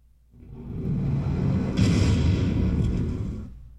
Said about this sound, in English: You have these depth charges, you have this big explosion. And you have the warping of the water right here. You can kind of see that it warps as the explosion goes off.